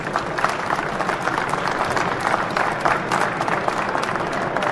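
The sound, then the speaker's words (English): Steady, dense applause from a sizable audience at a biodiesel industry event, for the presenters and the companies supporting biodiesel, with many hands clapping at once in a continuous wash of sound that holds at an even loudness throughout, with no voices standing out. “So let's give all of the presenters and all of the companies here that are supporting biodiesel a round of applause, please.”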